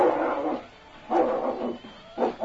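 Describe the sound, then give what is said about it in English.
A dog barks in three drawn-out, mid-pitched bursts with short pauses between them, the last one briefer. The barks are fairly loud and alone, with no talking. “Listen to that cur.”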